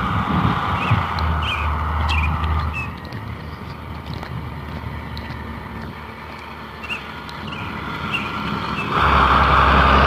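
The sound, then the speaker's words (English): A school bus drives past, its low engine rumble and road noise steady, easing slightly midway, then swelling louder again at the end, with no talking. “Well, speak of the school bus, there was a school bus.”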